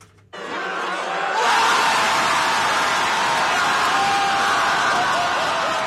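A large outdoor crowd of President Yoon Suk-yeol's opponents outside the South Korean Constitutional Court erupts into a loud, sustained roar of joyful cheering after the court removes him from office; it swells within the first second and holds steady, dense with overlapping shouts and voices.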